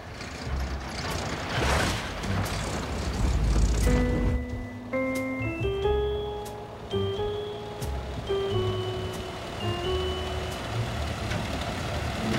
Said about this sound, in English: The yellow car drives down from the hill.